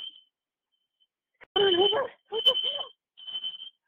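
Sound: fire alarm beeping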